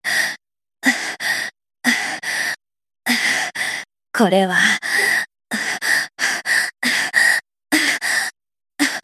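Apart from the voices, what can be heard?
breathless panting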